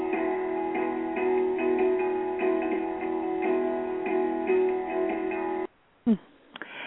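An upbeat, energetic song plays loud with a steady, driving beat, then cuts off abruptly near the end, leaving a moment of near silence and a brief thump.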